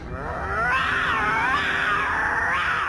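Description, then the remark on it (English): A young lion cub's weak attempt at a roar, a thin, wavering yowl that rises and dips in pitch, held for a couple of seconds, fairly loud with no talking. “Remember the first time Simba tried to roar in The Lion King?”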